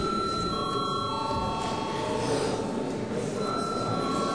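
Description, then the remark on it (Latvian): A break bell in a parliament chamber rings steadily and loudly for the whole stretch, a buzzing, rattling electric clang with sustained high tones and no pauses, and no voices are heard. “Lūdzu zvanu.”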